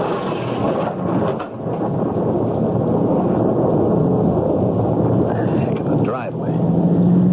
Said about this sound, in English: Gotta get a roof over my head till this downpour stops. Dangerous out here.